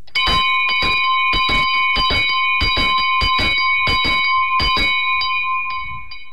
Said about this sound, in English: tell us about the bell that you rang there. Tell me its history. Well, all I know about it is that my father had it before I was born. His father had it before that. I think my father picked it up around 1904.